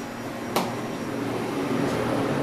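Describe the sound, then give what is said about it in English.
A giant walk-in refrigerator's fan hums steadily and continuously, a low droning whir, broken only by a single sharp click early on. No one speaks. “So we're walking through this doorway now, and this must be your giant walk-in refrigerator.”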